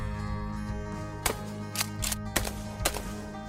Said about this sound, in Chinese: 是小偷们开枪了，森林里的动物们被枪声吓得四处乱跑。